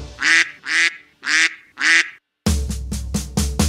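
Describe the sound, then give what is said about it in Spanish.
Four loud, nasal duck quacks come in an even rhythm with short gaps, then a faster run of quacks plays over a steady low backing sound. “Dime si tú sabes cómo hace el pato.”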